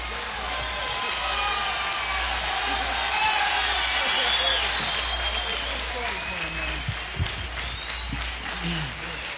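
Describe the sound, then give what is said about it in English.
A large audience at Newport applauds in a dense, steady wash of clapping that holds at an even loudness throughout, with a few whistles, whoops and crowd voices scattered through it. “Thank you very much, ladies and gentlemen, for your kind applause.”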